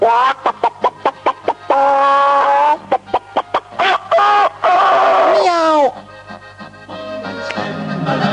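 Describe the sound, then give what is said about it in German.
A person imitates clucking hens, with quick choppy clucks breaking into drawn-out cackling squawks, then fading into quieter background sound near the end. “Ja, einmal habe ich eine Nacht auf einem Bauernhof gezeltet und es war sehr, sehr schön, weil dort auch in der Früh die Hühner gackern.”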